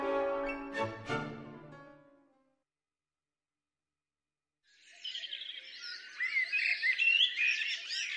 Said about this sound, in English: A larger cousin of the familiar song thrush, mistle thrush is an early songster and one which we can listen out for in late winter from the tops of tall trees.